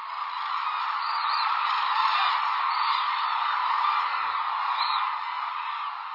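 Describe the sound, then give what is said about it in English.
A large flock of hooded cranes at a wintering reserve on Kyushu, Japan, calls together around sunset in a dense, continuous chorus, overlapping cries blending into a steady wash of sound with occasional louder, higher calls standing out. “Most of the world's hooded cranes winter at one reserve on Japan's southern island of Kyushu, calling together around sunset.”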